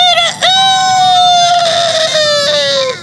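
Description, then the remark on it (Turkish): A rooster crows loudly in one long, strained call that rises sharply, then holds a high, piercing tone for a few seconds before tapering off. No voices accompany it. “Bir çiftliğin önünden geçerlerken kapının üstünde olanca gücüyle öten bir horoz görmüşler.”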